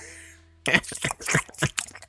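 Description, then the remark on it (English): A ginger nut biscuit being crunched: after a brief quiet moment, six or seven sharp, brittle crunches follow in an uneven rhythm, fairly loud and with no talking. “And so, you know, I figured while we're doing the story, I'm going to enjoy a little ginger nut.”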